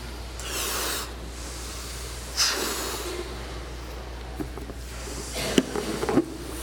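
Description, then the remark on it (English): Several breathy, hissing puffs of air blown out in separate bursts as people blow up balloons without tying them off, with short pauses between breaths and faint squeaks near the end; no one speaks. “In other words, blow up your balloon.”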